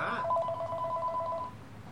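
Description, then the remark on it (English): A single electronic telephone ring for an incoming call to a show on Kill Radio, an LA radio station: a steady two-tone mid-pitched trill lasting just over a second rises over a low background hum and then cuts off. “Thanks for calling into the show.”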